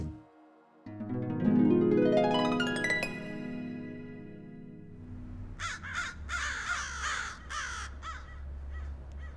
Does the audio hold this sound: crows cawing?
yes